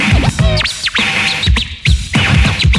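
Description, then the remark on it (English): Rapid turntable scratches by a DJ working a record to make it sound like a bird sweep up and down in pitch, forming chirpy, warbling bird-like calls, with several quick bursts in a row over a low rumbling backing. “Now make it sound like a bird.”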